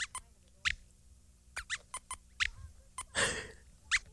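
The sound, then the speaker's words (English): A run of short, squeaky hiccup sounds, about a dozen quick high chirps at uneven intervals, fairly loud, with one longer breathy squeal near the end. No talking. “It's all right, Squeaks. You have the hiccups.”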